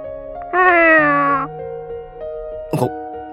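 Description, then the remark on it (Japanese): A ginger tabby cat in a lodging-house room lets out one drawn-out, fairly loud meow, clear, over a faint steady background hum; a short noisy rustle follows a moment later. “このお部屋におるんは、その茶トラの猫だけじゃな。”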